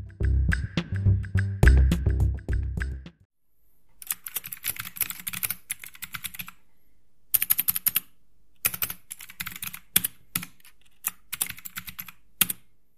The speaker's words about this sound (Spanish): Yo ahora les voy a mostrar un poco, para ejemplificar bien esto, les voy a mostrar cómo suenan estos teclados. A continuación van a escuchar cómo suena el teclado con interruptores azules.